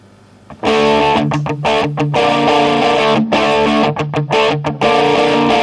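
A loud rock song played on a radio programme, with heavy distorted guitars bursting in after a brief quiet moment, driving forward with sharp rhythmic stops and breaks. No one talks over it.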